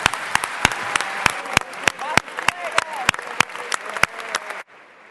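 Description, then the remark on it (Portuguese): An audience claps steadily for about four and a half seconds, a dense patter of hands with a few sharper individual claps standing out, then it stops abruptly. “eu tive aqui as minhas colegas a ajudarem, por isso peço também uma salva de palmas para elas.”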